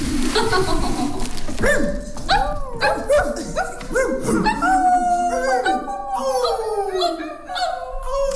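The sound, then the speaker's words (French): A group of people howl and yelp like a dog pack, many overlapping rising and falling cries piling up loudly, continuing throughout with scattered bark-like shouts. “On a tous un autre enfant qui est encore en nous, qu'on aime accentuer parfois, et qu'on s'est tous retrouvés en meute comme les chiens.”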